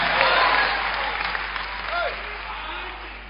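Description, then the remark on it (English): An audience claps for God Almighty, a dense wash of overlapping hand claps that stays fairly loud throughout, easing slightly toward the end, with faint voices mixed underneath. “Clap for God Almighty.”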